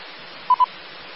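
Two quick, identical electronic beeps from a phone going off sound back to back over a steady bed of radio-like hiss; no one speaks.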